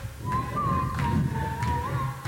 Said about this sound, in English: Forget your troubles, try to be just like a cheerful chickadee and whistle while you work.